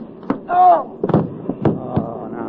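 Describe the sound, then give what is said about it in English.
A scuffle of punches as a railroad cop is knocked out: four or five heavy, dull whacks land in an uneven rhythm, with a strained vocal grunt rising between the first blows and muffled voices underneath. “Hey, son, you knocked out a cop.”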